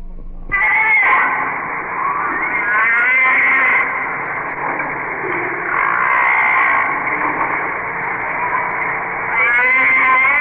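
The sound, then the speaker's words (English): Humpback whale song recorded underwater: long, loud, wavering moans and cries with rich harmonics, sliding up and down in pitch almost without pause, and no voices. “These are underwater recordings of the humpback whale, now almost extinct.”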